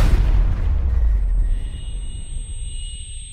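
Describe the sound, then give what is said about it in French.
A heavy explosion, a second blast set off with a lit fuse, booms with a deep, loud low-end blast that rolls into a sustained rumble and slowly fades, raising dust and bringing a collapse at the entrance side of a portico, with no voices present. “Donc, pareil, alors la deuxième explosion, poussière, effondrement.”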